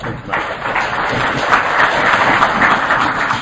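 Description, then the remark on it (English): An audience at a meeting applauds all the speakers, many hands clapping into a dense, continuous wash of sound that stays fairly loud and even from start to finish, with no one speaking over it. “I'd like to give all the speakers one more round of applause, please.”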